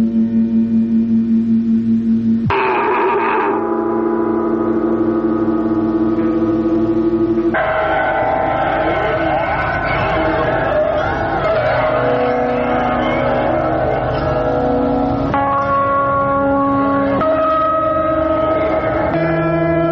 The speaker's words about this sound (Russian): садовое кольцо, шум которого послужил фоном для нашего разговора.